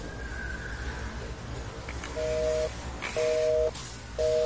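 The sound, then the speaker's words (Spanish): A telephone busy signal: three short, steady beeps repeating at an even pace, clear over a low background hiss, with no one speaking. “El teléfono comunicaba.”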